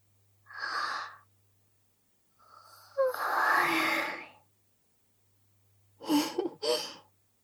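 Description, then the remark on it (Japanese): A drawn-out, breathy yawn with a soft voiced rise in the middle, framed by a short breath before it and a quick double exhale after. Quiet throughout, with no talking. “今度はあくびが映っちゃったみたい。”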